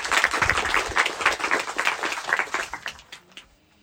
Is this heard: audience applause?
yes